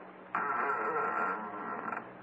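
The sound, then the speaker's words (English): A door at the head of an upstairs landing is pushed open with a sudden onset, then a steady scraping creak that drags on for nearly two seconds before easing off. No voices. “Okay, Sergeant, push the door.”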